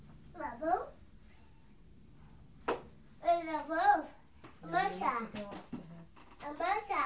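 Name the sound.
old cat meowing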